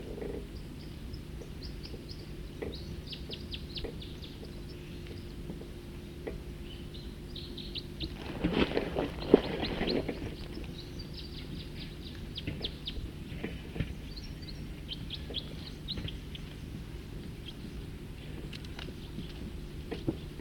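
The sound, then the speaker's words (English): Birds in a nearby tree sing in bursts of short, high chirping notes throughout, with a steady low hum underneath and a brief rustling noise around the middle. No one speaks. “Start recording some other birds in this in a nearby tree.”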